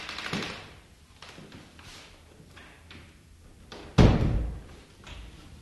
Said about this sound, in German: Was willst du? Wieso klopfst du an meine Tür? Geh nach Hause oder klopfe bei jemand anderem an.